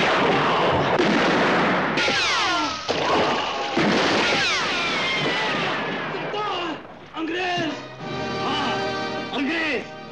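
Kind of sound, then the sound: gunshots fired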